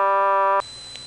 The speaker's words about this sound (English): This is Goldston's dial tone and unbalanced power sound. And now here's Bon Lee's dial tone and unbalanced power sound.